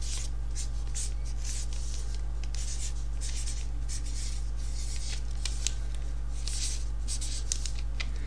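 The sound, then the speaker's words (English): A pen scratches across paper in a run of short, uneven strokes, fairly quiet, as someone writes down a number, over a steady low electrical hum. No one speaks. “I have got a pen and paper.”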